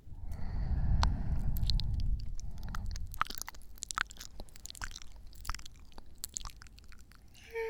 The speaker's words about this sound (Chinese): 舔下耳朵而已，又不会少块肉。就算是给主人的一点特殊福利吧。